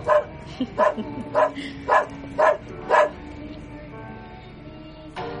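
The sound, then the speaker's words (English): A dog named Winston, in the radio play The Swami and Winston by Mahesh Dattani, barks six times in a quick, steady rhythm, each bark loud and sharp, then falls quiet before letting out one more bark after a short pause. “He's a very rich dog, as well endowed as the Swami.”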